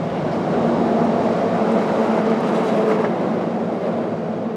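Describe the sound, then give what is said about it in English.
Steady, loud traffic roar from the Frederick Douglass Memorial Bridge, where ospreys nest: a continuous low rumble with a broad hiss layered over it, holding constant for the whole stretch with no voices. “All that traffic noise from the bridge doesn't bother these birds.”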